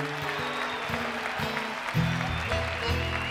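A live theater audience at the Emory Theater in Cincinnati, Ohio, applauds and cheers steadily for Tracy Nelson during a taping of Writers Radio Theater, a dense crackle of clapping layered over low, sustained musical notes that shift in steps.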